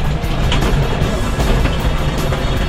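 A rally car roars at speed with a loud, continuous engine and road rumble, heard from inside the vehicle, with gritty bursts of tyres skidding on loose ground as the car slides completely sideways around the first corner and speeds out past hay bales.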